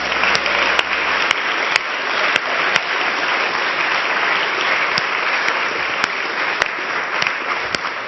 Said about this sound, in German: Lass uns jetzt mal einen Applaus geben und ihn preisen.